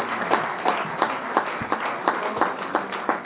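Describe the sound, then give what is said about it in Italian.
A crowd applauds steadily, a dense wash of clapping with a regular beat running through it, as if many hands fall into a rhythmic pattern. No one speaks. “Allora io ho pensato a una cosa, improvvisiamo, fantastico, un applauso.”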